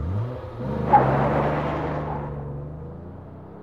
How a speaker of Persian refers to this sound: پاتریشیا و چند عضو اسلی در جریان سرقت به دو تا مرد شلیک کردن و زخمیشون کردن و بعد با یه ماشین فرار همراه با $10,000 پول نقد فلنگو بستن.